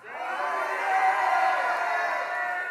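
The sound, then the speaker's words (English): An audience shouts together on cue, acting out the people's shout at Jericho, in one loud, sustained roar of many voices, lasting a few seconds with steady intensity and a slight swell in the middle. “Joshua said to the people, clap nicely. Shout!”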